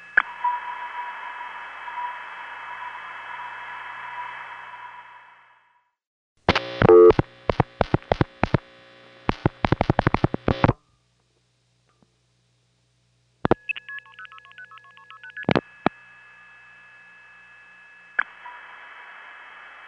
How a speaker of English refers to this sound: On this call coming up, if you listen very carefully, right after the reflected start as the Regina trunk comes on, you can actually hear the Regina sender dial pulsing. You don't hear the pulses, but you can hear the relays sort of gonging.